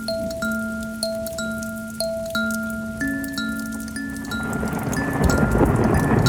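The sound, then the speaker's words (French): Rain patters on a roof, starting faint and growing into a denser hiss, with scattered drips and a gentle melody of sustained musical notes playing over it. “Tip-tip, c'est la pluie sur le toit.”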